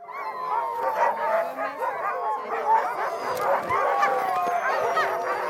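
A pack of sled dogs barks, yips and howls all at once, a dense, excited chorus of overlapping calls that continues steadily without pause, loud.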